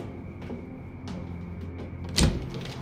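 door being opened

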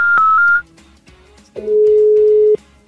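telephone number being dialed

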